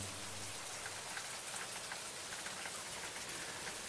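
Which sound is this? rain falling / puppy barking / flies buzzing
rain falling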